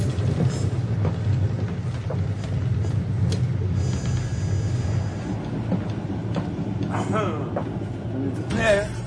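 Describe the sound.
A steady, heavy rumble of a train rolling along the rails, heard from aboard the train, continuous throughout, with faint voices murmuring underneath and a brief higher vocal sound near the end.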